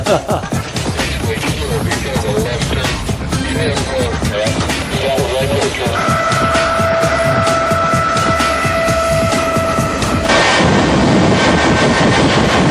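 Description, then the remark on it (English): A 25,000-horsepower jet-powered truck engine roars and fires off a rapid string of sharp backfire pops, with a steady high whine joining the din partway through. The truck accelerates from 0 to 300 miles per hour in about 8 seconds. “The truck has just a slight backfire.”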